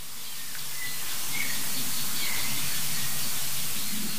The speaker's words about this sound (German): Ja, ich meine, die kleinen Singvögel eben, die haben ja angezeigt, wohin der große Vogel geflogen ist.